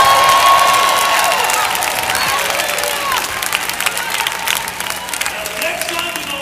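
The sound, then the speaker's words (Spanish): A crowd shouts and cheers over steady, dense applause, giving God a shout at a preacher's call, with raised voices and whoops rising above the clapping before it gradually thins out toward the end. “Denle a Dios un grito.”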